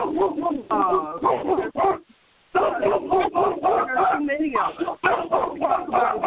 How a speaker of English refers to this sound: I'm sorry, I can't hear you over the dog. That dog is not mine. I know, it's a different bark. It's a bigger dog.